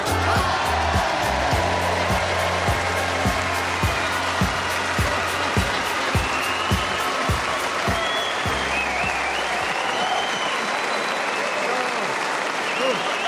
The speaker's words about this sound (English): And as for you, audience, if you're going to clap along, how about clap to the same song?